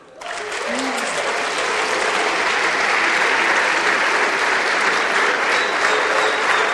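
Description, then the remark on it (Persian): Loud, sustained applause from a large audience standing in honor, dense clapping that swells in quickly and holds steady for several seconds with no break. “تشویق بای ام جی.”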